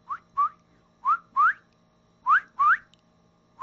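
Frogs at a small puddle of water along a walking route call out with no talking: short, rising, whistle-like chirps, mostly in quick pairs, seven in all, fairly loud against a faint steady hum.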